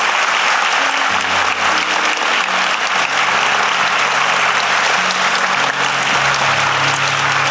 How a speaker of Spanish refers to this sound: you can applaud. Y vamos a dar un aplauso por la obra que está haciendo en la vida de estas personas.